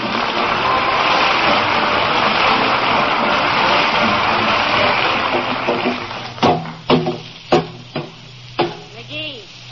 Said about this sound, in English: I ain't knocking dents in it. I'm knocking dents out of it.